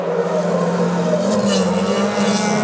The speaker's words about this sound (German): Ihr kennt das vielleicht, das Heulen der Motoren